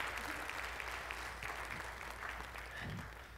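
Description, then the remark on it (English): A crowd applauds steadily, with dense, sustained clapping and a few scattered cheers rising over it for a few seconds. “Can we get some claps for that? Some cheers?”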